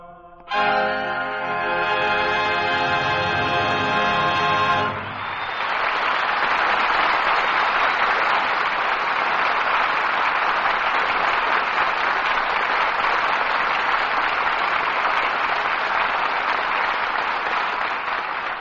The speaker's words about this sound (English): Wish Senator Hickenlooper could hear that applause.